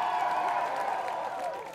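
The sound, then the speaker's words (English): An audience applauds a door being closed, with cheering voices mixed in; a dense, steady wash of clapping and crowd noise that stays at an even, fairly loud level throughout the short stretch. “Can we give it a round of applause?”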